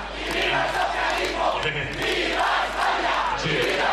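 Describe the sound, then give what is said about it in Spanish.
A large crowd at the PSOE headquarters on Calle Ferraz in Madrid shouts rhythmic political chants of "Viva España" and "Viva el Socialismo" in unison, loud and sustained, with repeated rising and falling bursts of voices over a constant roar. “Gritos de Viva España y Viva el Socialismo en la sede del PSOE, calle Ferraz, Madrid.”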